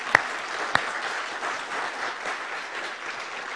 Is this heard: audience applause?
yes